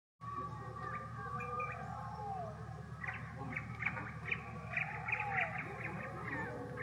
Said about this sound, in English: Echoed in the air, a symphony of exotic birds and mysterious creatures.